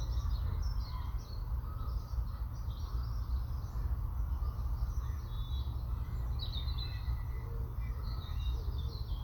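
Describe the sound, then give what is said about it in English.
A European bluebird that has just landed on an oak tree calls with short, repeated high chirps scattered across several seconds, over a steady low outdoor rumble like wind. “And I've stopped at an oak tree, which a bluebird has just landed on.”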